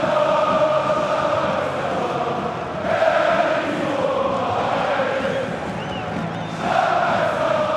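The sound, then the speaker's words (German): A large crowd of Union Berlin football fans sings a stadium chant together at the Alte Försterei stadium in Berlin, a dense, continuous wall of voices with a sustained melodic line that swells louder every few seconds. “Ein Stadionhit, der die alte Försterei erobert hat.”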